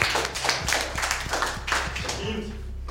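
An audience applauds the winning team of a game, which finished with 34 points. It is a steady burst of many hands clapping in a dense, crackling patter that fills the whole moment at an even, fairly strong level, with a faint murmur of voices underneath.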